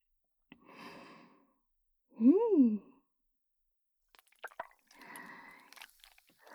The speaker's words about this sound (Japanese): それではこちらのタッパーの中身にご注目。さあ、ブルースカイブルースライムがめちゃぐにょぐにょしてんしょ。